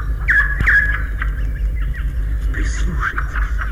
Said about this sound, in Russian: Прислушайтесь, какой разноголосый гомон слышится в лесу. Все птицы поют, кричат и щебечут одновременно. Такой шум бывает только на рассвете. Когда солнце поднимается выше, часть птиц стихает.